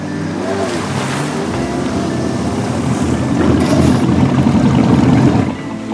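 A malfunctioning water scooter's engine drones steadily over rushing, splashing ocean waves near the shore for several seconds, loud, growing slightly stronger before easing off right at the end.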